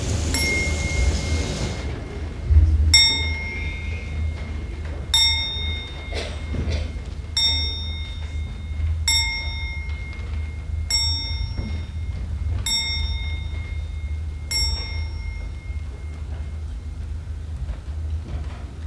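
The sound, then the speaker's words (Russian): An old-fashioned telephone bell rings again and again in an apartment in short, bright bursts about every two seconds, clear over a low, steady background rumble. “Только телефонные звонки и голос домработницы Моти иногда нарушают тишину, царящую в квартире.”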